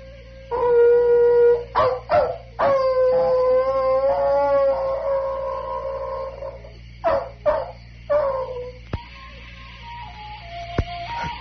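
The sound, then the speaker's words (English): Hounds howl in long, wavering, mournful tones that rise and fall, broken by a few short sharp yelps, with a steady low hum underneath and no one talking. “Thank God, Holmes, you hear those hounds.”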